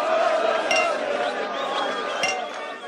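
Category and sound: household object, glasses clinking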